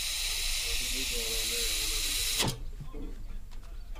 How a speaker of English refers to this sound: There we go. After a few more adjustments, the Rumley oil pull booms to life, puffing black smoke.